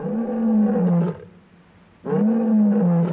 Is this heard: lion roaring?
yes